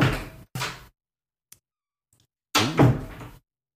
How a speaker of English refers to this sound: That sounds it's a much quieter door. It's a much quieter door where I am.